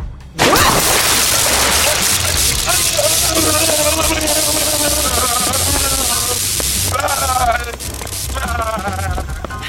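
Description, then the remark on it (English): A sudden, loud rush of water bursts from a smashed water-filled squid tank, struck by a swung high-voltage Datax, and keeps gushing steadily for several seconds, hissy, with shrill wavering tones or voices rising over the torrent. “Sorry, I did tell you not to swing your high-voltage Datax at the water-filled squid tank.”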